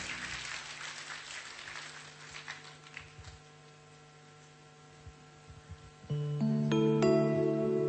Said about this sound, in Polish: Duże brawa dla was.